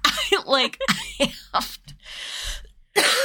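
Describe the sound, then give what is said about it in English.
A series of harsh dry coughs in quick succession, some with a raspy voiced edge, ending in a couple of breathy, hacking bursts. “I have really bad dry cough at night.”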